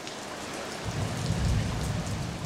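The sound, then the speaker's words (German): Steady, heavy rain hisses across the whole clip, joined after a moment by a deep, rumbling roll of thunder that swells underneath. No voices are present. “Starkregen. Es regnet so stark, dass Keller volllaufen oder Straßen überfluten.”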